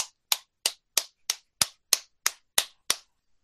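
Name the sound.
hand clapping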